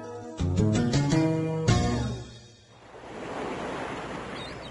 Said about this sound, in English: For billions of years, ocean waves have lapped the shore.